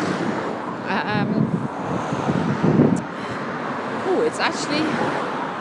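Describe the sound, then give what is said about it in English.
Steady outdoor wind on a windy, foggy day rushes and buffets the microphone while someone walks back from school drop-off, a low rumbling roar that swells now and then, with faint voices briefly breaking through the gusts. “It's quite windy actually.”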